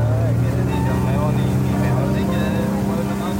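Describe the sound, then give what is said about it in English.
A steady, droning engine of a boat travelling upriver toward São Paulo hums with a constant low rumble, while faint voices murmur in the background over the continuous motor noise. “We continue our journey now to São Paulo, and I imagine hundreds of little bocachicos swimming underneath our boat, heading upstream to lay the eggs of the next generation.”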